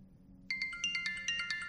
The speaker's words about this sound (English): Look, I have potential spam that just came on my phone. You have potential spam. That's kind of weird. I wonder what potential spam is.